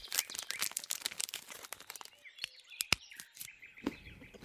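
A chocolate wrapper crinkles in a dense, busy burst of rustling, then thins out into scattered crackles and soft pops, with a few faint chirpy squeaks near the end. No one speaks.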